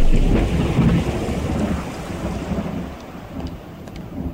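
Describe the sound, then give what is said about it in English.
Steady rain pours down with a dense, continuous hiss, while deep thunder rumbles low underneath through the first part before easing slightly; no voices are heard. “It was raining and I was in a hurry”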